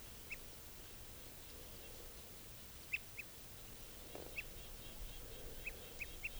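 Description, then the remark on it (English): A type 2 red crossbill, perched in a tree right above a net, gives alarm calls and toots: about seven short, clipped notes spaced irregularly, thin, over a soft outdoor hum, with no one talking. “Giving alarms and toots now.”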